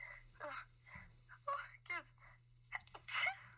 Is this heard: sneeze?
yes